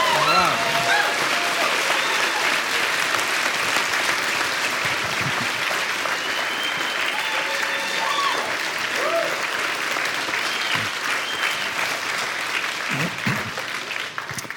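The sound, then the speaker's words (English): Sustained, enthusiastic applause from the audience of the 1115 Mount Pleasant church service in Vancouver, giving a rousing welcome, a dense wash of clapping that stays loud and steady for about fifteen seconds before tapering slightly at the end. “And so now, without any further ado, I want you to give a very warm, not a polite pitter-patter sort of Vancouver clap, but a rousing welcome from the 1115 Mount Pleasant service to”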